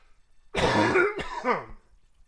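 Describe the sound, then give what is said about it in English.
A fairly loud throat clearing with a rough cough-like burst from a person with chronic bronchitis, lasting about a second and a half, followed by near silence; no talking. “If you will bear with me, I have a problem with chronic bronchitis that has been acting up lately, and I may have to mute the mic every once in a while in order to cough.”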